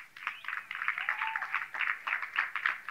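Scattered audience clapping, a light patter of claps rising and falling unevenly over a few seconds, fairly quiet with no voices over it.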